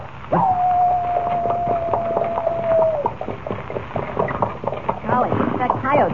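coyote howling

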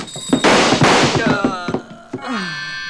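gunshots fired

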